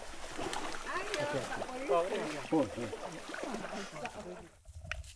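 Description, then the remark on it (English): Continuous splashing and sloshing of water as people wade across a shallow creek, with indistinct voices talking over the watery churn before it quiets near the end. “We've just climbed out of the creek and are walking through dirt and mud and rocks, bending under low-hanging branches.”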